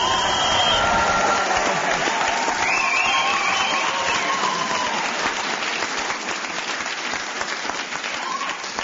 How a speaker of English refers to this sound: Yes, that applause was justified.